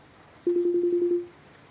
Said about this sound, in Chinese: 突然间我的电话铃声响